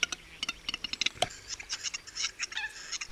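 Western capercaillie males displaying: a rapid series of dry clicks and ticking pops mixed with scratchy, wheezing notes, fairly quiet and continuous with no one speaking.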